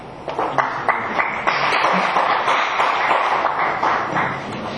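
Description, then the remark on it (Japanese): Steady applause from many people at a club's regular meeting, given on behalf of the attendance committee, a dense patter of many hands clapping at an even level without letting up, with no one speaking over it. “出席委員会より大きな拍手がいただいております。”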